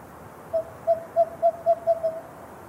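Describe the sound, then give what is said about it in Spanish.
A western screech owl calls a series of about seven short, hollow toots that speed up slightly toward the end, clear against a quiet background. “Búho chillón occidental.”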